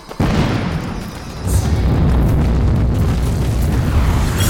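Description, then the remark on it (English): A heavy explosion erupts with a sudden deep boom, strong enough to knock three people off their feet, followed by a sustained, loud rumbling roar that swells again midway and keeps churning with low, crackling debris-like texture as fire rages through new tea rooms. “The aftershock knocks all three of us off our feet.”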